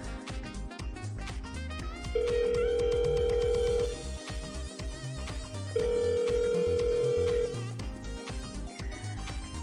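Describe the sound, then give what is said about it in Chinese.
A phone ringback tone sounds twice as a call is placed to a friend. Each ring is a steady, fairly loud hum lasting under two seconds with a pause between, heard over busy background music and clatter. “好了，我这就给闺蜜打电话，让她来接我。”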